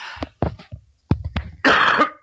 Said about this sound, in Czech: Ano. A je tam, já se zeptám, když využiju toho kašle, já jsem měl asi upozornit posluchače a diváky, že jste mi na to i vy upozorňoval, že máte trochu kašlík a to je pro chlapa, jak známo, smrtelná nemoc